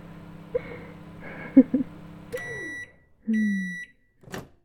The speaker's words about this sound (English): I can't very well microwave myself over here. 10 seconds should do the trick.